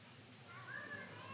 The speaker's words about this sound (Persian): ببینید آقا اینقدر این خانوما حاجت دارن، تا اسم حاجت روایی میاد فقط صدا بچه ها میاد دیگه.